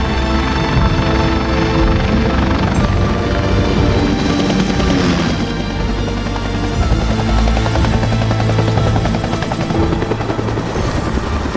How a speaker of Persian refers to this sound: لطفا هلیکوپتر را آماده کنید.